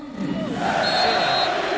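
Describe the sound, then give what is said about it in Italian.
Swiss football fans chant in unison the name of substitute Seferovic, who has just come on for Embolo, voices swelling into a loud, sustained collective shout over a dense roar of fans for under two seconds. “E questo hanno appena scandito il nome dell'entrato.”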